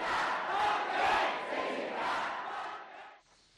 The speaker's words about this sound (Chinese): 那么我们继续来为您解说现在正在发生在香港的一些这个抗议集会的场面。那么我们现在看到这个美联社的这个画面呢，我们看到继续的有这个火堆出现